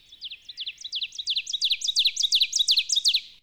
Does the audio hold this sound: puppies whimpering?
no